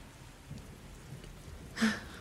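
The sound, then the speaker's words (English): Steady rain hisses softly throughout a storm, with a low rumbling undertone and a brief louder swell near the end, like a thunder crack or gust. No voices are heard. “We'll snuggle and watch the storm go as I keep you nice and safe.”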